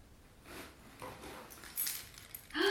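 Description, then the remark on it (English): Soft, scattered metallic clinks and rustles of a mother's keys jangling, quiet, with a brighter jingle near the end followed by a short high vocal sound. “Have you found Mommy's keys?”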